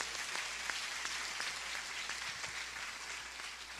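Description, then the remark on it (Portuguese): A crowd applauds the Lord steadily, a dense wash of many hands clapping at once with a few sharper individual claps standing out, sustained at an even level throughout with no voices. “Por favor, aplauda o Senhor por isso.”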